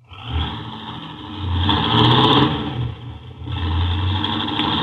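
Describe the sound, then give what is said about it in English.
A car engine revs hard, rising in pitch and swelling loud, dips briefly, then roars up again as Harvey Benson's car, which has bad brakes, speeds off in a hurry, a steady motor drone with no voices. “Golly, he's certainly in a hurry. With them brakes the way they are, he'll kill somebody if he ain't careful.”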